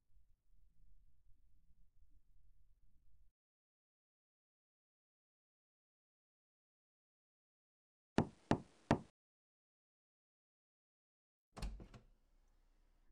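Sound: knocking on a door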